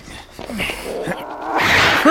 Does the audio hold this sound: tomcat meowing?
yes